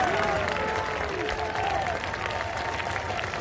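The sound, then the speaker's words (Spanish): A large crowd in Spain cheers and applauds loudly and steadily at the arrival of the king, calling out 'long live' to the monarch, with scattered voices shouting over the dense clapping throughout the few seconds. “Y a la llegada del rey, vivas al monarca.”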